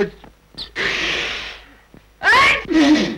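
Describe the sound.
A man sneezes: a sharp, hissing burst, a brief pause, then two loud, voiced explosive blasts in quick succession.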